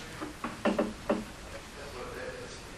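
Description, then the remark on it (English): A handful of quick knocks on a door, four or so sharp raps in an uneven cluster, moderately loud, followed by a faint murmur of room noise. “Was it the door?”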